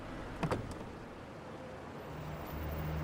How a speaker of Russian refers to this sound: Смеркается. Автомобиль паркуется у торгового центра рядом с коктейль-баром. Снег покрывает край стоянки.